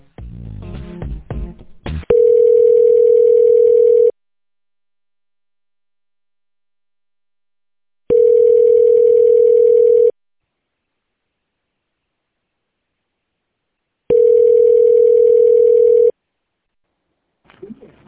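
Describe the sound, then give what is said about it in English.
A phone line ringback tone repeats three times while a call is being transferred, each steady ring lasting about two seconds with long silent gaps between, after a brief burst of muffled voice or line noise at the start. “I'm going to transfer this call”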